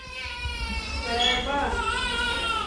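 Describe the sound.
Thin, high cries of premature infants rise and fall intermittently in the hushed Kangaroo Mother Care unit at CHU de Treichville in Abidjan, Côte d'Ivoire, while young mothers talk softly in low voices throughout.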